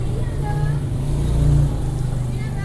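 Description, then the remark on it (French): Scooter engines buzz steadily as scooters brush past the walls in the narrow lanes of the old market in Tainan in the early hours, their drone swelling as one passes midway through, with faint voices of merchants and street bustle in the background. “Frôlé par les scooters qui rasent les murs, décomposent un balai de fourmis dans la foule clairsemée des premières heures.”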